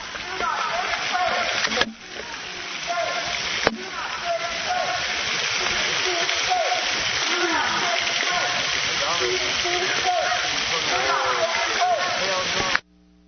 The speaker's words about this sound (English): And that water is the sound of the duck pond.